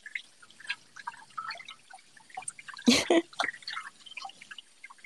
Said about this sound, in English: Power washing your brain, sir. That's just like spraying water into your face.